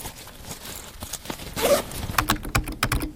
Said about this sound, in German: Und jetzt wieder in der Bibliothek am Campus Lingen.